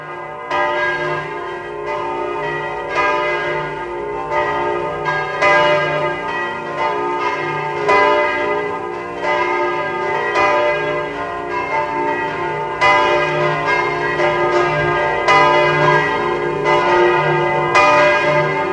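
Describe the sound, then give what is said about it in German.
The large bells of the cathedral church of St. Martin in Eisenstadt peal together continuously at 12 noon, a dense, resonant wash of overlapping strikes with rich ringing overtones, loud and steady throughout with no voices. “Sie hören die Glocken der Domkirche zu St. Martin in Eisenstadt.”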